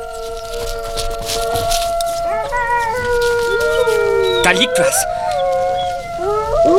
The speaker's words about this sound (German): Ein Kassettenrekorder. Das Geheul kommt vom Band. Deshalb ertönt es so regelmäßig. Die Töne hallen prachtvoll von den Wänden wieder. Da haben Sie Ihren Wolf, Sir.